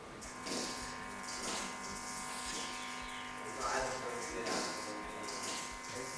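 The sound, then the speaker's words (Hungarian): A radio recording of natural sound from space: a steady electric buzz with droning hum tones, broken by several hissy bursts of rising, chirping sweeps at irregular intervals. “Nem, ez nem a madácsi csergés, Ez bizony egy olyan hang, ami az űrben keletkezett.”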